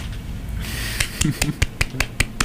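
A lone person claps about eight or nine times in a quick, slightly uneven burst, sharp moderately loud smacks over a low rumbling background murmur.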